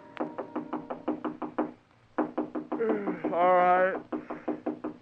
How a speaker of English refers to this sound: It was almost 3 a.m. when Andy knocked on my apartment door.